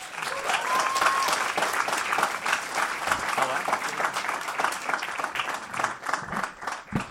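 Sustained audience applause, a dense wash of many hands clapping steadily at a fairly loud level for several seconds, with a brief whistle rising above it near the start.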